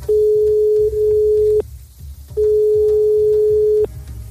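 A telephone line tone sounds in two long, steady beeps of about a second and a half each, separated by a short pause, loud and clear over a faint low rumble.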